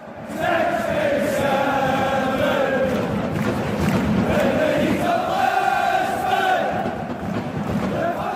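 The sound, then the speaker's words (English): A huge stadium crowd at a soccer match blowing some 80,000 vuvuzelas, a constant, loud, buzzing drone of many horns layered over the roar of the crowd, steady and unbroken throughout. “But the hum of 80,000 vuvuzelas drowned out that type of crowd noise.”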